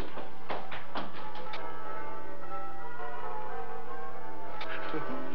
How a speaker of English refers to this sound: Bells. Oh, merry, merry bells.